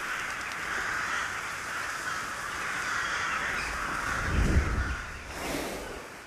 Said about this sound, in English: A flock of crows passes overhead.